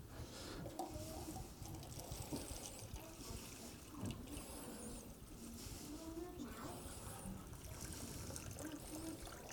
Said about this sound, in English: I'm going to fill this cup up.